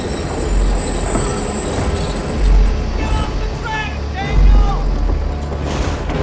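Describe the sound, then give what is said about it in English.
A heavy train engine with a brass eagle beak starts turning its wheels: a loud, steady low rumble with a few deep thumps, while thin, high metallic squeals slide in and out midway. “The heavy wheels begin to turn.”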